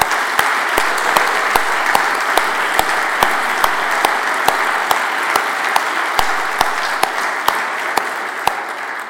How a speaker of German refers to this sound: Und deshalb mal ein ganz herzliches Dankeschön, ein großer Applaus.